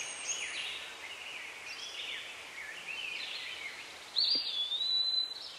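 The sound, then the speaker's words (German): Soft, continuous birdsong fills a forest, a tangle of chirps and trills, with one brighter whistled call rising near the end. “Die Vögel zwitschern.”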